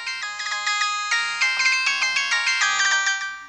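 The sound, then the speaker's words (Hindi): A phone ringtone plays a bright, repeating electronic melody of rapid tonal notes, loud, continuing steadily with no voices, as a call is placed to a family member. “ना मन बा, रुका, अभी ये तहार भैया के फोन लगावत हैं, सब बात बतावत हैं।”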